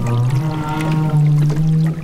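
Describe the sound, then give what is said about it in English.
A loud, sustained call from a whale in a surface active group in the ocean: a low, droning moan with rich harmonics that holds steady for about two seconds, slightly wavering in pitch, with faint water noise underneath and no voices. “Since the visibility is so limited in the ocean, really the only way that they could be finding each other is using sound.”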